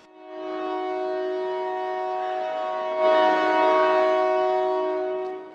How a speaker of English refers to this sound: That's the 7 p.m. train headed from Nairobi to the port of Mombasa on the Indian Ocean. During colonial times, the British built the line from neighboring Uganda via Nairobi to Mombasa. That's a long way.